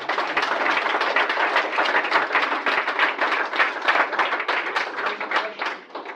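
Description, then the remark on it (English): A crowd claps steadily in dense, sustained applause, a bright crackling wash of many hands that holds at an even level before easing slightly near the end. No one speaks over it. “I think we should give a big round of applause for these people.”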